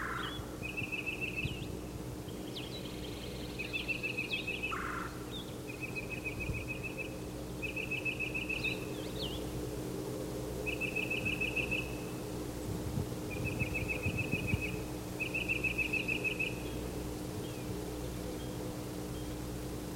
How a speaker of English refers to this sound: Okay, it's Yellow Yellow calling. He's getting an answer. He's pumping his tail while he calls. There are two other titmice in the same tree.